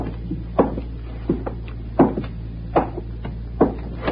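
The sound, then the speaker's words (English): Several dull, wooden door thumps land at uneven intervals over a steady low background hum with no voices. “Oh, is that the door? I think it was.”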